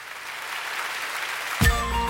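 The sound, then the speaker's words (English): A church audience claps together in a dense, steady wash of handclaps, before music with a strong low beat cuts in near the end. “Church, can you clap your hands with us?”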